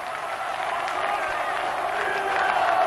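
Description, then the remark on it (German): A crowd of over a million Serbs on the Kosovo Field (Amselfeld) in 1989 roars and cheers Slobodan Milošević continuously, a dense wash of voices and clapping that stays loud and steady throughout, swelling slightly toward the end. “Über 1 Million Serben jubeln ihm zu.”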